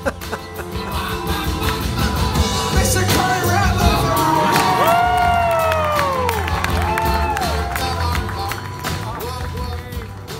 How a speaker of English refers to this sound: The show ended, and I walked through the crowd with the audience chanting my name.